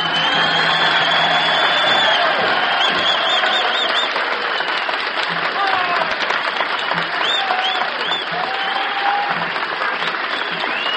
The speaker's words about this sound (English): and the applause is now being volunteered and offered by the paid customers this evening at the Carousel.